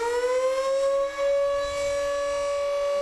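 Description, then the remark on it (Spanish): A mine accident warning siren, set off when something failed to warn that there had been an accident in the mine, wails steadily and loud, its pitch rising slightly at the start and then holding a sustained, harmonic-rich tone for the full few seconds, with no voices. “Y si algo fallaba, se accionaba la sirena, que avisaba de que había habido un accidente en la mina.”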